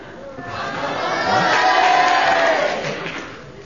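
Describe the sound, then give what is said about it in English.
During a charades game, a crowd breaks into spontaneous cheering, a dense wash of many voices that swells to a loud peak in the middle and then fades, lasting a few seconds. “The mystery voice has told everyone at home, and they all broke into a spontaneous cheer.”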